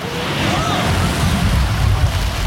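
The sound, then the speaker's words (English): A big ocean wave surges against a boat, a loud, continuous roar of churning water and wind that stays heavy and steady for the whole moment. “Brace yourself! Big wave coming through!”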